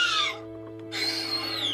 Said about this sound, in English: For the raptor, recorded baby dolphins.